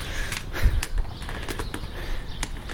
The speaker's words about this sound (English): Listen to all those sparrows. The sparrows are flying again.